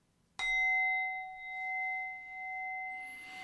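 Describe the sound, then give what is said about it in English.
A single strike of a meditation bell at the start of a sitting meditation, clear and ringing out with a long, steady tone that gently pulses as it slowly sustains. No voices are heard. “Okay, I'll start with the three strikes.”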